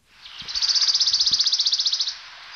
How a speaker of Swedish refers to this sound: Det är lite svårt att höra, men kan det vara en lundsångare eller någonting? Grönsångare skulle ja, jag säga. Ja, den tog du på. Grönsångare var det? Ja, ja vad bra.